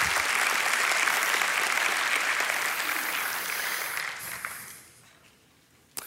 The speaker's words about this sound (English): Thank y'all. You give them a big round of applause. Good job.